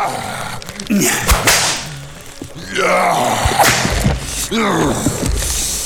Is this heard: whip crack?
yes